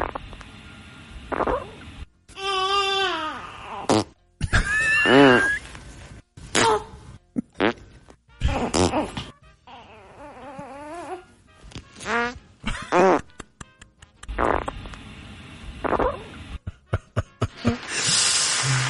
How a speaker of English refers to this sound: Okay. Get some gurgles in there. Those are milk farts. That just sounds so fake. I know. It's so fake.